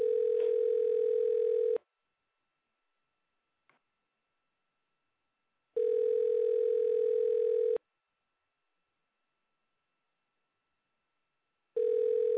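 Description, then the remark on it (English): A phone ringback tone, heard while calling a stepmother's phone, sounds in steady two-second bursts separated by about four seconds of silence, repeating three times, clear with no one speaking. “See if she'll answer the phone.”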